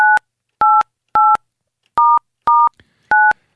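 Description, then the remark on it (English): Six evenly paced telephone keypad tones from dialing an international call with exit code 011 and UK country code 44 to Buckingham Palace, each a short steady dual-pitched beep with brief silences between, one landing slightly off the rhythm. No voices are heard. “I interrupted my dialing with it.”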